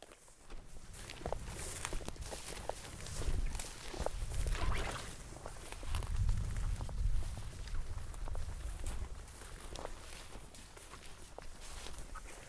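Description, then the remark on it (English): Steady footsteps crunch along outdoors in an even walking rhythm as someone walks while hunting for Sasquatch in cloudy weather, each step a crisp, moderately loud scuff, while a low rumble of thunder swells in the background partway through. No one speaks. “Walking along and I can hear thunder rumbling.”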